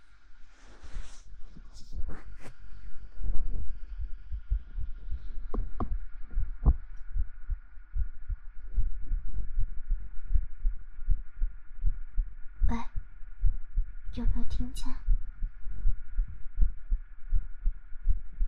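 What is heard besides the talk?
heartbeat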